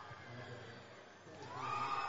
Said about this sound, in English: So you can hear the crowd trying to get going here. But it's an RBI double for Cachel. It's now 10-0.